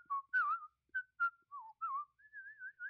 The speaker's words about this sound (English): Yeah, I be whistling. I whistle, like if I'm in the grocery store, if I got my headphones on, if I just like something that I'm just doing and I, you know, not thinking about it, just start whistling. I'm like, oh gosh, I'm whistling so loud,